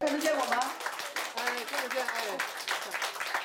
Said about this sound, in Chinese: 华盛顿时间上午11点多，当两位709太太出现在大屏幕上时，现场爆发出热烈掌声。